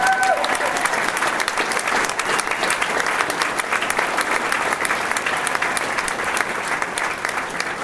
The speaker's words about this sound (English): Being out on the track, it's been exciting, it's been fun, and they've been an incredibly good host, and we really need to give them a round of applause.